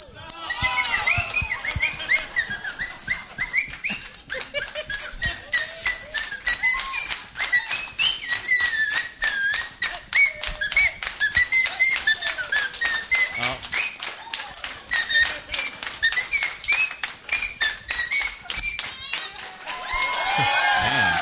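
Someone whistles a wandering melody, clear and up close, while a crowd claps along in a fast, steady rhythm for the whole stretch.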